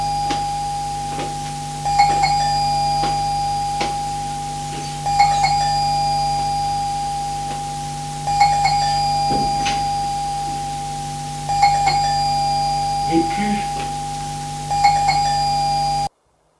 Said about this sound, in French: La sonnerie de l'interphone le fait sursauter. Il était dans ses rêves.